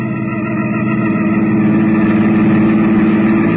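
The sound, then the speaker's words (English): A car engine runs steadily, its low rumble building slightly as the car is driven out of a garage. No one speaks. “I slipped down the back stairs, and before Catherine and the servant spotted me, I had my car out of the garage.”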